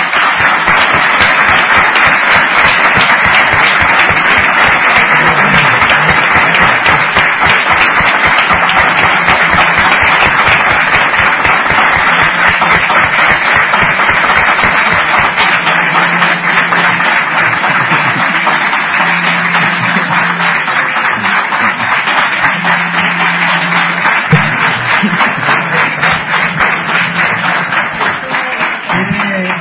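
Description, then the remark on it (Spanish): Sustained applause from a crowd introducing a guest, a dense, steady wash of many hands clapping that stays loud for about half a minute, with faint cheering or voices mixed in toward the end. “Yo voy a pedir como presentación un aplauso.”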